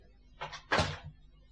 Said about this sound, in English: Close the door.